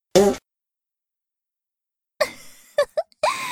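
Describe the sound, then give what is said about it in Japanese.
A single short, loud fart bursts out at the start. After a long silence comes a series of sputtering, choking coughs and gasps. “ほら、むせていないで、私のおならをたっぷりと吸い込むんです。”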